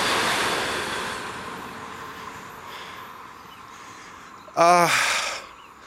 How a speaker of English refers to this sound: Sorry, train.